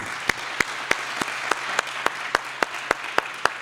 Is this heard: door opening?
no